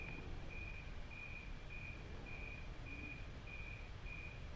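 Crickets chirp in a steady, evenly spaced rhythm, about eight high-pitched pulses over a constant hissing background. No one speaks.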